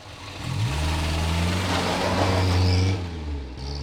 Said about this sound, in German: »Sie kriegen neue Arbeiter«, erwiderte der Ermittler durch das geöffnete Fenster. Das Auto war schon in Bewegung.